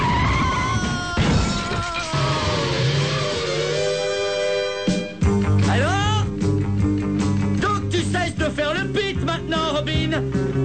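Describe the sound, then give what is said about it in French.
A car's tires screech in a long, loud braking skid, followed by a crash and the windshield shattering, with frantic, scream-like voices and clattering debris continuing afterward. “Si je freine, il va t'arriver des malheurs et tu vas passer par le pare-brise.”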